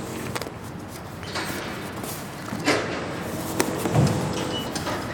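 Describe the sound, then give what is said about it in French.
Construction site noise: a steady, dense clatter of work sounds with scattered thuds and sharper knocks popping out every second or so, moderately loud, with no one talking. “Après, bon, il y a du bruit de chantier, mais bon, c'est du bruit de chantier.”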